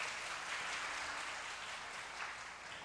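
A crowd claps steadily in welcome, a dense, even wash of many hands sustained for about three seconds, moderately loud, with no one speaking over it.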